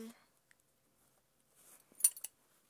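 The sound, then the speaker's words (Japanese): A metal belt buckle is unfastened as a belt is taken off: a soft rustle of fabric, then a few quick, bright metallic clinks and a jingle in a short cluster, with quiet surroundings. “ベルトを外して”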